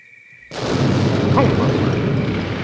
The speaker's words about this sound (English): Holy cow! There's been an explosion in the cornfield!